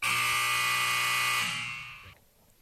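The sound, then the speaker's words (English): A loud, steady electronic buzzer signalling a break blares for about a second and a half, then fades out with a brief ringing tail. No voices are heard. “Well, that was the buzzer.”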